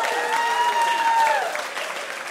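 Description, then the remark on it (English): Steady audience applause for game show contestants fills the whole clip, a dense wash of clapping that eases slightly toward the end, with a sustained high whoop over it that slides downward and fades. “Big round of applause for our contestants.”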